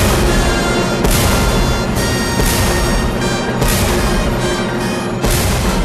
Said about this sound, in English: Five cannon shots are fired in the Battle of Borodino, a turning point in the war.